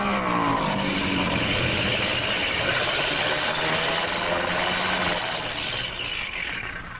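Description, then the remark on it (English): A loud, steady engine roar fills the whole stretch, a continuous droning rumble from an airplane coming in fast to land with its engine acting up, staying strong throughout and easing off only slightly at the end. “Well, we'll know in a minute because he's coming in fast.”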